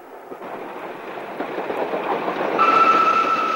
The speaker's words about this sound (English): A train passes in the next track, and the woman bolts upright.